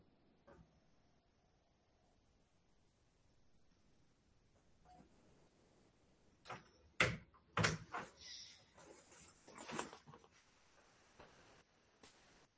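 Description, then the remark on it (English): A dog jumping up and knocking things over: after several quiet seconds, a burst of sharp thuds and clattering bangs rings out, then settles into faint rustling. “I had a dog jump up and knock things.”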